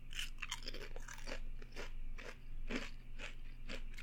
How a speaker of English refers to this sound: I know everyone wants to hear me chew and masticate. Hey, people love the things you do with your mouth. Okay. Certainly sounds like you're enjoying them. They're delicious.